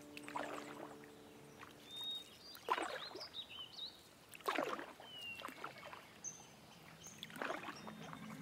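A canoe glides along river water, with paddle strokes splashing every couple of seconds and water lapping between them, while birds chirp faintly in the background.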